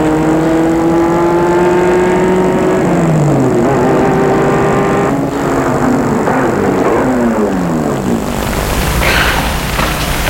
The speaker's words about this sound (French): Une voiture vient à eux, les dépasse.